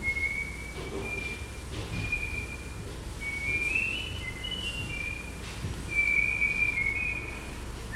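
human body sound, person whistling

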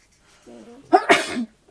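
human body sound, sneeze

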